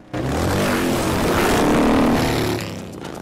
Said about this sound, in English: The bikes speed past on the road.